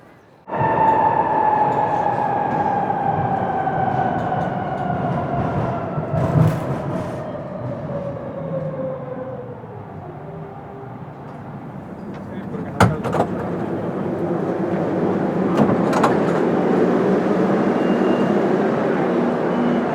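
subway train ride

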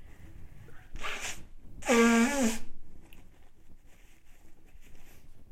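nose blowing

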